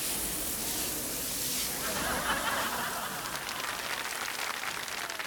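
Water hisses steadily out of a wobbly garden hose at a concert, a continuous, fairly loud rushing spray for about five seconds, with faint voices murmuring underneath.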